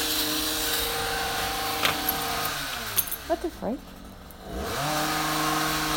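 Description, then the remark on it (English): A small gas engine, like a lawnmower or garden power tool run by gardeners just outside a house, drones steadily, sputters and dips in pitch midway, then revs back up to a loud hum while a person briefly exclaims. “I think it's meant to be a lawnmower by the smell of it, but it sounds like weird.”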